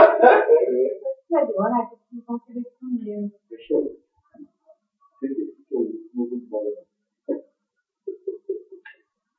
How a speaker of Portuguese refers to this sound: O cachorro.